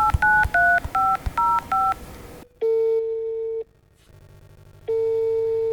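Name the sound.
telephone keypad dialing tones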